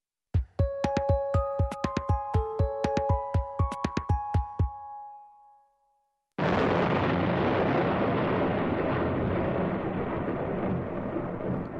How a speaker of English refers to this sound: Thunder and lightning.